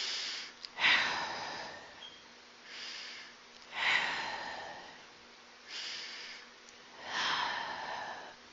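slow deep breathing out

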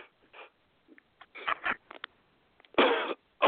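coughing

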